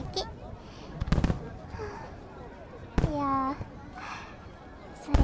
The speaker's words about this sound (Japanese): 生で見ると花火も悪くないじゃんね。いや、違うか。きっと先生と先生の背中で見てるからこんな格別なんだよね。